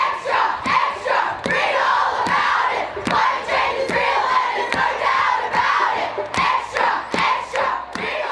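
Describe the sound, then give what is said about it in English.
A large protest crowd in Australia demanding more action on climate change shouts and chants in a loud, continuous roar, punctuated by sharp percussive hits, like claps or drumbeats, that land every second or so. “Many people in this crowd are pointing to a government commission”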